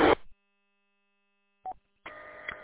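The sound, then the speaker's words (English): Radio dispatch paging tones from County 911 (WM8A), sent at 1300 hours on a mostly cloudy afternoon, come through a narrow, crackly channel: a short burst, a brief tone blip after a pause, then a sustained buzzy tone over static. “All tones have been sent.”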